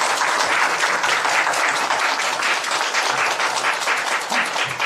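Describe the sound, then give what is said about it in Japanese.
Sustained welcoming applause from an audience at a church worship service for the pastor's returning daughter, a dense steady patter of many hands clapping at an even loudness for the full length, with no voices heard over it. “大歓迎の拍手をしたいと思います。”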